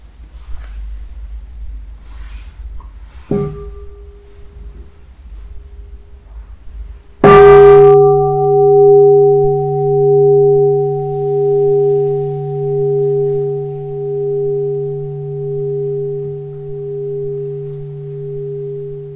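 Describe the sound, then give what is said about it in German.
A soft tap on a bell, then a single loud, clear strike whose deep, humming tone rings on with a slow wavering pulse, gradually fading over many seconds in an otherwise quiet space. “wenn wir jetzt eine Glocke hören könnten.”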